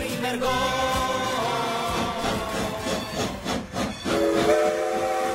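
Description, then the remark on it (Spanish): A steam train chugs loudly and steadily, its rhythmic huffing filling the scene, while a bright, sustained steam whistle sounds over it, swelling clearly near the end. “Es el sonido rítmico de un tren de vapor que en 1916 inspiró al jugador Carlos Garcés a hacer la porra para el equipo en el que militaba, el Club América.”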